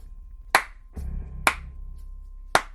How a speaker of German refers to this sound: Und mitten in der angespannten Ruhe ertönt ein sarkastisches Klatschen.